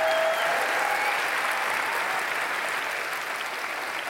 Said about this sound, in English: Also, let's give one last round of applause to our amazing musical guest,